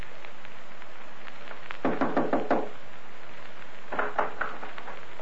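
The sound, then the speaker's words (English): Jonathan Wilde knocking on Blueskin's front door at night: a quick burst of about five firm raps, a pause, then a second, softer group of knocks, with no voices. “Wilde had no inkling of this when he rapped on Blueskin's front door that night”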